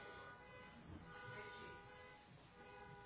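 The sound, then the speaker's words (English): A car horn honks in one long, unbroken blare that holds steady for the whole stretch, with a rough, droning background and no voices. “It's Richie's car.”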